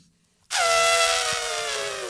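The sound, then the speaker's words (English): A voice imitates an elephant's trumpet: a loud, brassy, harmonic blare bursts in after a moment of quiet and holds for under two seconds, its pitch sinking slightly. “That sounds like a haunted elephant.”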